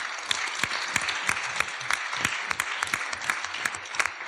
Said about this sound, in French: Oui, on peut t'applaudir.